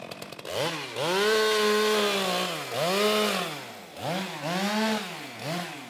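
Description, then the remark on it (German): A harvester's motorized saw on a long grab arm cuts down a maple tree next to the town hall in Miesbach and lays it on the street, during pest control measures; its engine is loud, whining up and bogging down in about four long surges, with no voices. “Neben dem Rathaus schneidet eine Holzerntemaschine, ein sogenannter Harvester, mit einer Säge an einem langen Greifarm einen Ahorn ab und legt ihn auf die Straße.”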